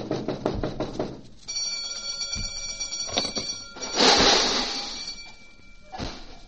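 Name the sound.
knocking on a door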